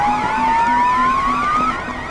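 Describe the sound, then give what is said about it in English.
An electronic proximity alarm from an app running on a phone sounds loudly and steadily: a rapid series of short, evenly spaced low beeps under a slowly rising tone and a warbling, siren-like whine, with no one speaking. “Well, those are the proximity alarms I set up in my app.”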